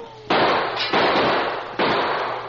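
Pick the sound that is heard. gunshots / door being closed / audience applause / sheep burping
gunshots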